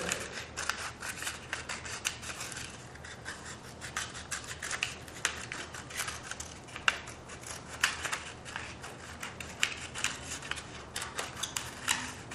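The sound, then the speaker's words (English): Steady snipping of scissors slicing lengthwise down the middle of a paper strip in a long continuous cut, with rapid crisp clicks and rustling repeating over several seconds, no voices present. “If you took a simple length of paper and cut it lengthwise with a pair of scissors down the middle, a simple ring, right?”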